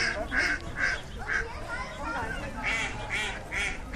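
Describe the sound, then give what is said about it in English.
Ducks quack repeatedly in a steady series of loud, nasal calls, some in quick pairs, as ducks fly in and land on the water, over a constant outdoor hubbub of people and many kids talking faintly in the background. “There's ducks flying in and landing in the water.”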